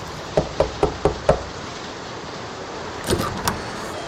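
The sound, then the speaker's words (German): Five heavy, evenly spaced knocks from a large iron door knocker on a castle door ring out, followed after a pause by a few duller clanks and thuds. “Dort mit dem großen Eisen muss ich klopfen.”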